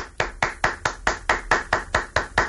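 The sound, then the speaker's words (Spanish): Someone claps their hands about eleven times in a quick, steady rhythm, each clap a sharp, bright smack with no talking in between. “Faci'ns una demostració de com aplaudeix.”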